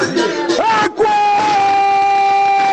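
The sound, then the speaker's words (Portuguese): A man lets out a loud, drawn-out war cry, starting with a few rough bursts before breaking into a long, sustained high-pitched yell held strong until the end. “Ele vai dar o grito de guerra, derruba a panela, derruba os trem tudo.”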